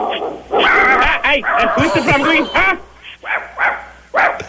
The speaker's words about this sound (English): While we're on the phone, is there any way you can get the dogs to pipe down a little bit? Yes, hold on. I'm at my compound, El Perro Caliente.